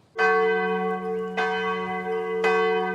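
The bells of a Protestant Reformed church in the village of Limmen, Netherlands, ring loudly, three strikes about a second apart, each rich tone swelling and lingering into the next with a long sustained hum.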